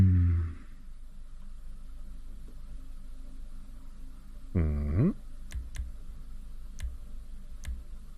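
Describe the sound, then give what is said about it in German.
A handful of separate keyboard key presses, sharp clicks spaced irregularly, preceded by a short low hum. “Enter musst du drücken,”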